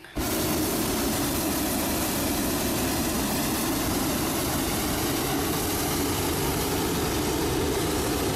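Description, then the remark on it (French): A hot air balloon burner roars on abruptly and holds a steady, loud whooshing blast with a deep rumbling body for several seconds, no voices present. “Oh, chouette, une montgolfière! J'ai toujours rêvé d'en faire!”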